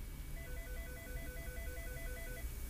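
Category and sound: signal or alarm, phone call ringing tone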